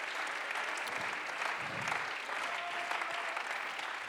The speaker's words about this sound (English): Somebody clap your hands to him and shout to God.